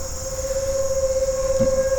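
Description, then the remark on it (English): A tornado siren sounds one steady, loud, mid-pitched tone that holds unbroken throughout, with a faint higher whine and a low rumble beneath it and no one speaking. “These tornado sirens are already starting to drive me crazy.”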